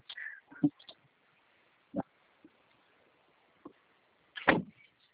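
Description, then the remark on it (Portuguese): A car trunk lid being handled: a few scattered mechanical clunks and thumps, then a louder slam near the end, with quiet rustling in between. “A porta-mala aí.”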